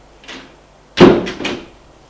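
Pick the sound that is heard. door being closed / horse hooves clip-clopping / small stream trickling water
door being closed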